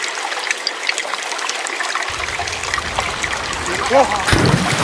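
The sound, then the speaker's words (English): Water trickles steadily, a continuous bubbling wash flecked with small droplet ticks, with a brief rising tonal sound and a louder splash near the end. “Get you, Bigfoot, out that water.”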